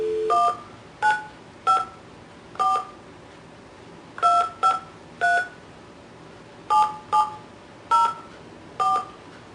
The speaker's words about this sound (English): Did you dial 9 first? Yeah, 9, then 1.